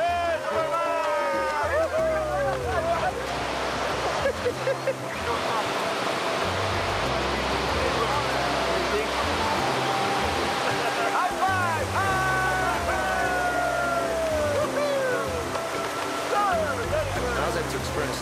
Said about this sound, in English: The rapid coming up is called Superman. The big rapid.